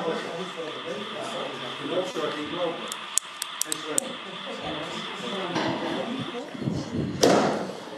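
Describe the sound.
A door is shut with a loud, solid thud near the end during a municipal council meeting, preceded by a few sharp clicks and knocks, all over a background of murmuring voices and room noise.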